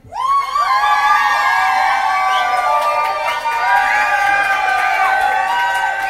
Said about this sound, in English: And also, the cheers were good, weren't they? Do you want to do the cheer thing again? Yeah, let's do the cheer.